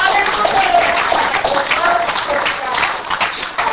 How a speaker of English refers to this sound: I want you to stand to your feet here this morning and put your hands together for the Lord Jesus. If you love the Lord in your heart today, give the Lord the praise and the hand clap here this morning.